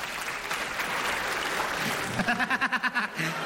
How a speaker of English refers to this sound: Clap if you knew your person 5 years or less. Okay? Clap if it was 3 years or less. All right? Clap if it was 2 years or less.